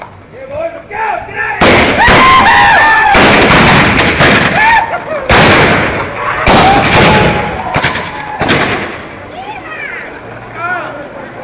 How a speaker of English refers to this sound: They rode out of town firing shots in the air.